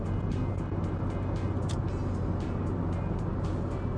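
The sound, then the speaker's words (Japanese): Steady, loud road rumble from inside a car driving in heavy rain with the wipers on, moving back to the normal lane while entering Fukagawa City, with a dense hiss and scattered faint splashing ticks as rain hits the vehicle. “うわマジか、ワイパー、ワイパー使うほど雨か。”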